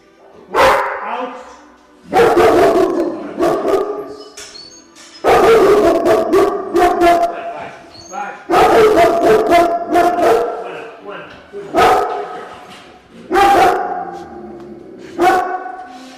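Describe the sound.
A female dog with a wagging tail barks in repeated loud bursts, several short volleys separated by brief pauses, with people talking in the background between and over the barks.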